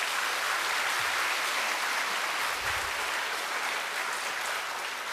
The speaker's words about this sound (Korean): 우리 수원 합창단을 위해서 박수 한번 더 주시고.